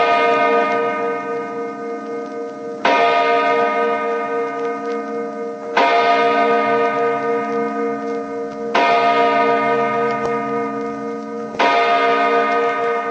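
A deep, resonant clock chime on ABC radio strikes the hour before the 1 o'clock time call, about five slow, evenly spaced strokes roughly three seconds apart, each ringing out loudly and fading into the next, with no talking.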